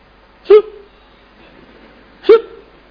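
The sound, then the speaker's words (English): A voice imitates a hospital patient's two loud, abrupt hiccups, evenly spaced about two seconds apart, each a sharp gulping burst that drops into a brief voiced tail, with quiet in between. “And big hiccups, you know.”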